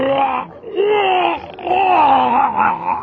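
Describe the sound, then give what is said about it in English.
A miserable, drawn-out howl, muffled as if behind a door, rising and falling in wavering pitch across three long moaning swells with brief breaks between them. “Came another miserable howl from behind the door.”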